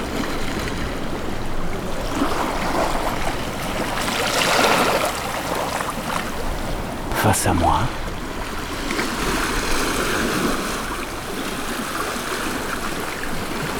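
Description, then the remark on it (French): Mediterranean waves crash against sea cliffs in a steady roar of churning water, with one sharp slap standing out midway. A voice speaks briefly and quietly beneath the surf. “ces vagues qui claquent contre les falaises, que sommes-nous ?”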